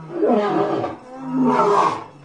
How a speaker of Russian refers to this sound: Вот тут-то медведь и появился. Да как, рявкнет?